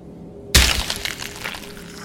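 A single heavy blow, a rock smashing down on a dying man's skull and face, erupts suddenly after a short quiet stretch, loud, followed by a brief crunching, splintering tail that fades.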